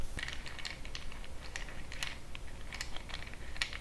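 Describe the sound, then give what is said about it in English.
Small checker pieces clatter and click as they are handled, a quick, irregular run of light taps over a soft low hum, with no one speaking. “The little checker pieces.”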